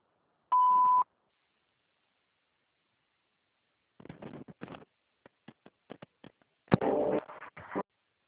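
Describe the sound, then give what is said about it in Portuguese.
A single short, steady voicemail beep sounds clearly near the start, followed by a pause and then a scatter of clicks, taps and rustling handling noise. “Por favor, deixe uma mensagem após o bip.”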